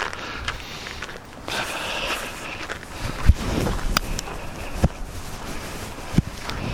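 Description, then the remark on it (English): Moderate outdoor wind blowing steadily with a low, rumbling buffet and airy hiss, broken by a few sharp knocks or thumps; no one speaks. “The wind was a disappointment.”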